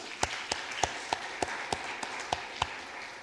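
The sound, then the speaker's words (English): A church audience applauds its worship team: a steady wash of clapping with one set of sharp, evenly spaced claps, about three per second, cutting through at moderate volume. No one speaks. “Can we give a round of applause for our worship team?”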